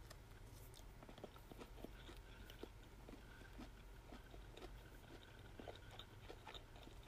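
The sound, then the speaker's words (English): Chewing a very small pepperoncini pepper, with irregular crunchy, wet mouth clicks and soft bites repeating for several seconds over a low steady background hum, with no talking. “I'm gonna take a bite of the little pepperoncini.”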